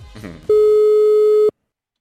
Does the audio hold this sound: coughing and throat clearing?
no